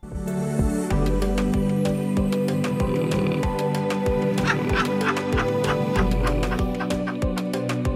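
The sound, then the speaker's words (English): Loud, rasping snores of real people repeat at a slow, uneven rhythm over gentle music with bright, twinkling chime-like notes, in a sleep-aid song meant to help listeners relax. No one speaks. “It uses the soothing sounds of real people snoring combined with soft twinkling music to help you relax.”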